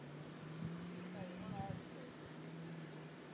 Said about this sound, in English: That engine behind us, I think, is the boat. So there's a bench you can sit on, and because the boat, where we wait for the boat is right here.